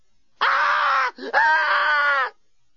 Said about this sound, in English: … was by now screaming uncontrollably.